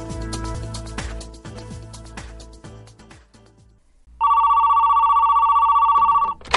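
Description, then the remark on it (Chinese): A short musical passage fades out, then a telephone rings loudly, a steady electronic trill lasting about two seconds with no voices over it. “一定是我老公打电话来赔礼道歉，不接。”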